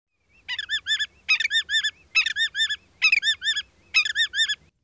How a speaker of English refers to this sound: Another large short bird with a distinctive call is the willet. It says its own name.